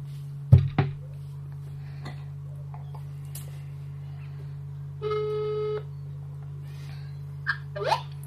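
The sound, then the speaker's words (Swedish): A single short burst of phone ringback tone, heard while a call to a woman connects, over a steady line hum with a few scattered clicks and taps before it. “Så att vi slår henne en signal.”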